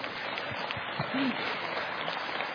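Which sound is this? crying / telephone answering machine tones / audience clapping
audience clapping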